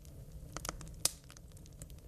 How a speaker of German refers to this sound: Ja. Also ich will mehr Lagerfeuer. Mehr Lagerfeuer, ne? Ja, ich finde auch, es ist ein bisschen klein.